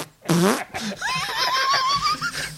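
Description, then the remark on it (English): A loud, crisp fart sound effect bursts out for about half a second, followed by a run of high, squeaky, wavering tones like giggling laughter. “You need to go back and get the crisp farted sample and just start mixing the giggles.”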